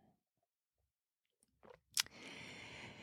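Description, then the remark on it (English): Quiet mouth sounds and a sharp clink like a cup being lifted, then a steady airy slurp as someone sips hot tea, with no talking. “I'm going to take a sip of my tea on that one.”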